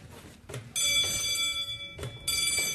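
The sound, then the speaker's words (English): A loud electric bell rings with a bright, metallic, rattling tone: one long ring of over a second, a brief pause, then a second ring begins. No voices are heard. It is a bell signal on a film set; one bell calls for quiet because filming is about to start, two bells mean talking is allowed. “If it's one bell, it means that we're on a red, which means everyone quiet because they're about to shoot.”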